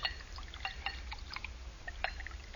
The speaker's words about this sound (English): Here, I'll pour us a toast.